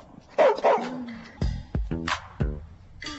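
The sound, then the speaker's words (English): A dog barks several times in quick, uneven bursts, some sharp yips mixed with deeper barks, fairly loud with no one talking. “This is my dog, Ferocious. You know why he got that name if you hear him bark.”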